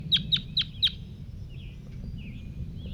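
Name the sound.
crossbill calling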